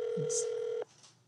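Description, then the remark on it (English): A single steady electronic phone ringing tone from an outgoing phone call sounds clearly for under a second, then cuts off abruptly, leaving faint background noise. “Ringing.”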